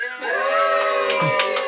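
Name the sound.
audience cheering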